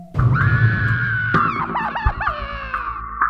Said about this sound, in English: The shriek stiffened her.